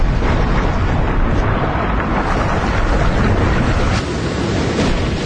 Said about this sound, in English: The surf smashes into the reef, pulverizing the coral below. Waves and currents move the rubble and sand around and shape it into beautiful small islands, known as coral caves.